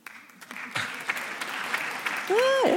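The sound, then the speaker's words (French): An audience at a France Inter debate votes by applause for keeping polarisation in debates, breaking into steady, dense applause that builds and holds for a few seconds, with a rising and falling whistle or cheer cutting through near the end. “Tiens, par exemple, voilà, par applaudissement, qui est pour le maintien de la polarisation dans les débats ?”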